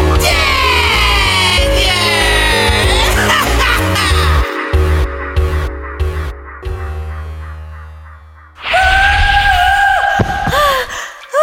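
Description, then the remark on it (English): Dramatic music plays with sliding, wailing tones, then loud, high-pitched screaming bursts in near the end, shrill, over a dense, rumbling background. “Stop screaming!”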